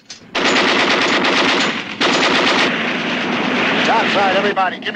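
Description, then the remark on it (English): Heavy machine-gun fire from a gun tower on the Maxim Gorky, manned by its crew and firing on a Dutch boat, rattles in loud, rapid, continuous bursts with a brief break partway through, and shouting voices rise over the gunfire near the end. “They fire on the Dutch boat.”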